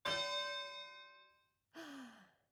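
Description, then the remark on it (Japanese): The starting bell of a fight in an arena: a single bright bell strike rings out loudly and decays over about a second and a half, followed by a shorter second tone that slides downward in pitch. “始まりの鐘が鳴ったね。”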